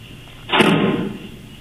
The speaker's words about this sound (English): Okay, you hear something that sounds like maybe the cell door, is that correct? The module door. The module door. Yes.